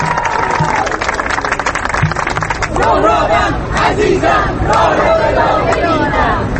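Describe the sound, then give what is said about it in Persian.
A large crowd of young people and students protesting in a central square of a city in Germany, in solidarity with protesters in Iran and wearing green scarves, chants loudly and steadily, many voices rising and falling together in rhythmic shouts, with a dense roar of noise continuing throughout. “در همبستگی با خواسته های معترضان در ایران، تظاهرات دیگری این بار اما از سوی جوانان و دانشجویان در یکی از میدانهای مرکزی شهر کل برپا شده.”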